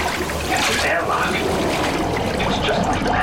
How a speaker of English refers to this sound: the floor came to a stop, and all of the water surrounding her swiftly left the chamber.